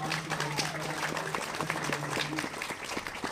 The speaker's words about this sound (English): Can we clap for worship and thank God?